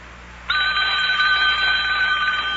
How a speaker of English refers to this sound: Telephone's ringing. Yeah, I know.